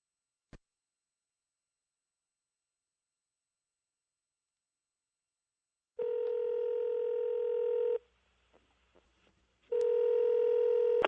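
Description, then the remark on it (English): A phone line rings through the receiver as a call is placed on Le Show: two long, steady buzzing rings with a short pause of faint clicks between them, after several seconds of near silence. No one speaks. “So it may all be resulting in a phone call next here in Le Show.”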